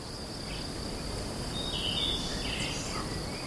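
In the mountains, a steady, continuous drone of chirping crickets fills the scene, with a few faint, brief bird twitters surfacing partway through. No one speaks.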